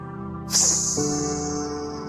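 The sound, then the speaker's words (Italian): A sudden bright fizzing hiss bursts in and slowly fades over a second or two as a packet of white powder dissolves in a bottle of water on a thick wooden table on a veranda by the sea, with a low steady hum underneath. “Ci metteva dentro una bustina di polvere bianca che frizzava alcuni secondi.”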